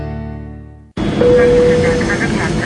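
A short sustained musical tone cuts off, then a loud, steady jet engine roar of an EVA Air Boeing 777-312 passenger airliner bursts in abruptly and holds powerful to the end, with a faint whine running through it.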